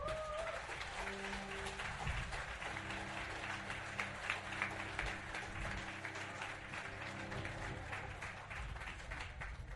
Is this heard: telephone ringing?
no